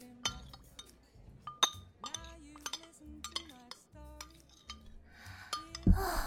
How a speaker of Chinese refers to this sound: 难得回来一次，这次一定要喝个痛快，干杯喽弟弟。